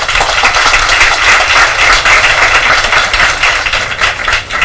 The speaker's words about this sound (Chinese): 佢喺越南去做钻石好快脆添，我哋俾掌声佢。